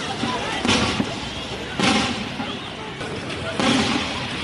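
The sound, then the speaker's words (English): Gunfire: three sharp bursts at uneven intervals over a constant noisy outdoor background with indistinct voices, heard in the city centre of Goma, Democratic Republic of Congo, as Rwandan-backed M23 rebels close in. “Gunfire has been heard in the city centre as the Rwandan-backed rebels close in, despite attempts by the Congolese government forces to fight them off.”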